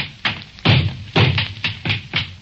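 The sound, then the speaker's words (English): A shotgun is pounded repeatedly against a hard floor and hammered, producing about seven dull thuds in an uneven rhythm, each with a sharp knocking attack; the gun does not go off. “I'm going to take the same gun and pound it on the floor. And now I'm going to hammer it and knock it.”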